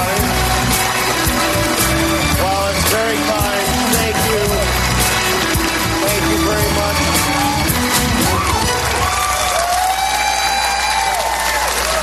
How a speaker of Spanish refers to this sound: Thank you for that partial standing ovation. Dice, gracias por la ovación parcial, porque parte de la sala se ha levantado y otra parte se ha quedado sentada.